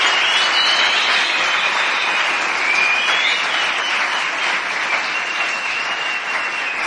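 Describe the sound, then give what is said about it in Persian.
An audience claps steadily in sustained applause in honor of an engineer, a dense, even roar of many hands that stays loud and unbroken for several seconds, with no speech over it. “ما مازندرانی ها وقتی میخوایم بگیم خیلی خیلی سپاسگزاریم میگیم که شمع خنا بودون، یعنی خونه دلت آباد باشه، و وقتی میخوایم تشویق کنیم برای چکر میزنیم. قشنگ چکر رو به افتخار آقای مهندس.”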